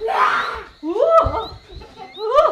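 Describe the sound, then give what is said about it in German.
A tiger lurking in a thicket roars loudly in three rough bursts: a breathy, noisy roar, then a longer rising and falling growl, and a final short snarl. “Vielleicht den Tiger, der im Dickicht lauert. Tiger!”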